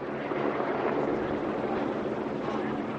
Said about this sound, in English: At 4:30, the first two helicopters appear in the valley below. It's a sign that the lead group has arrived.